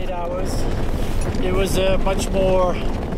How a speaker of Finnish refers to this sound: Leirissä tuuli ja kovaa. Tuulenpuskat oli selkeästi yli 20 metriä sekunnissa.